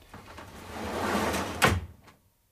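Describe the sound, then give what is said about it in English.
An automatic door, opened by pressing a button, slides open with a rising mechanical whoosh for about a second and a half, then stops with a sharp thud that quickly fades. Fairly loud, no voices. “Door, of course, is automatic. I just press this button here, so.”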